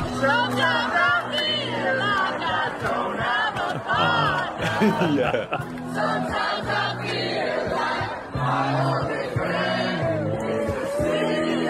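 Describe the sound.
A loud, dense crowd of thousands at Southern Cross railway station sings together with a busker dressed as Darth Vader over steady low musical tones, many overlapping melodic lines rising and falling continuously, with cheering and shouts mixed in throughout.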